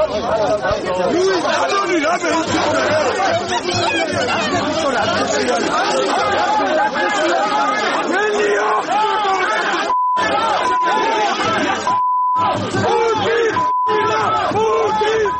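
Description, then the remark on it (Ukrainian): A loud, dense crowd of protesters outside a hotel in Georgia where Russian TV host Vladimir Pozner was staying shouts "get out" and clamors continuously as eggs are thrown at the building, voices overlapping into a steady roar, with a few brief dropouts and short high beeps near the end. “Протестувальники кричали «забирайся геть», а будівлю готелю закидали яйцями.”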